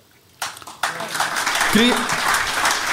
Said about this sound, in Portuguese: Mais uma salva de palmas para o candidato.